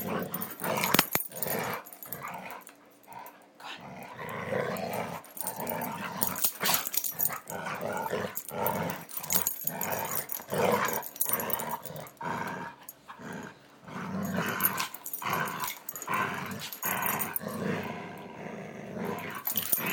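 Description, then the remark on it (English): Dogs growl continuously in a rough, rumbling tug-of-war, broken by sharp yanking snarls and a few short yips, loud and busy throughout with no talking. “They're actually playing tug with it, you can hear them yanking it.”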